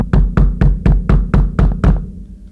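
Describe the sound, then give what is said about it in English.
Eight loud, evenly spaced knocks by police on a pastor's door in a steady rhythm, each a hollow, booming thud, with no voices. “And the pastor will get a knock on the door.”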